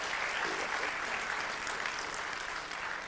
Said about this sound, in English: Now you can clap.